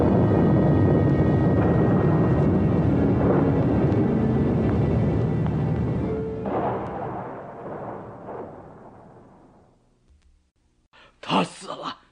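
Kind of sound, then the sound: nature, thunder rumbling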